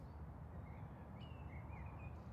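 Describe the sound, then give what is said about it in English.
Faint birdsong along a country lane lined with trees and fields on a summer day: a few thin, high whistled notes drift in and out over a steady low outdoor rumble, with no voices. “The sound of birdsong drifted towards Peter”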